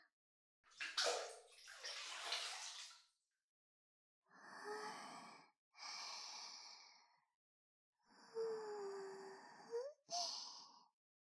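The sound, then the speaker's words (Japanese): Warm bath water sloshes and splashes for a couple of seconds as someone settles into the tub, followed by several soft, breathy sighs of relaxation. “癒されるそれに男の人とお風呂に入るなんて子供の時のパパ以来ドキドキします。”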